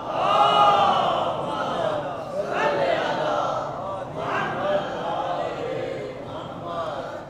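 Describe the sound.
A large crowd recites salawat on the Prophet Muhammad together in unison, a loud, sustained wave of many voices rising and falling in rhythmic recitation, filling the whole stretch.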